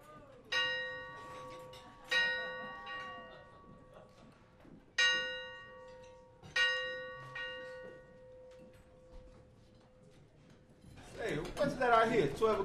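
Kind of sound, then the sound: signal or alarm, church bells ringing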